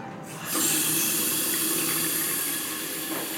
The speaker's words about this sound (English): But what I'm really excited to see is my hotel bathroom. I'm about to turn on the faucet.